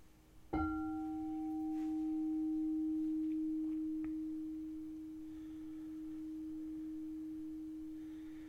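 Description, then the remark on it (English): A meditation bell is struck once, its bright overtones fading quickly while a low, steady hum rings on for several seconds, with no voices. “hearing the bell, feel the afflictions and constrictions within you dissolve.”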